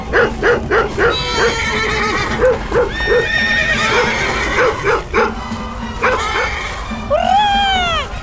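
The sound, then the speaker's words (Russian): Horses neigh and whinny repeatedly as they scatter, frightened by the barking of the dog Altai; a quick, rhythmic run of hoofbeats early on suggests galloping, and a loud rising-falling whinny near the end; the dog barks faintly in the mix. “Алтай, вон там лошади, видишь? Беги к ним и лай, что есть мочи.”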